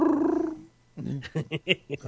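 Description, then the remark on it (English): A voice makes a brief, warbling, buzzy imitation of a dolphin call, held for about half a second, followed by someone talking. “I didn't know how to make a dolphin sound. Yeah, it was a Jetsons car.”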